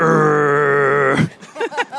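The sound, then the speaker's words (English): A person imitates the engine growl of a Dodge Ram pickup truck with a steady, low, buzzy vocal drone lasting just over a second, then breaks off into brief voiced sounds. “What sound would this car make? Something like that, like a growl.”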